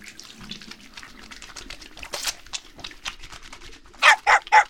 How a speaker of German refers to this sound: Eine kleine Hundedusche. Du musst ja auch sauber werden.